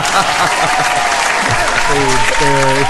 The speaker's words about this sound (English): I'm not sure if they were clapping for you or the fact that you're married. Either one is good, though, I guess.